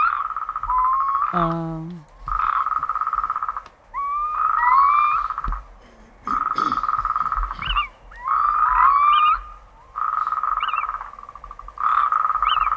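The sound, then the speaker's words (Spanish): Loud, rolling trills from a chorus of natterjack toads, calling again after staying silent all winter now that it is relatively warm, about a month before spring, come in repeated bursts separated by short pauses, with thin whistling notes sliding over the droning calls. “El despertar de los sapos corredores es título de película de ciencia ficción.”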